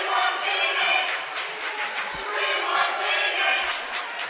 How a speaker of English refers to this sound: Peoria crowd is chanting, oh, they want Kevin Moore, apparently. That's the chant. I thought they were saying we want TD,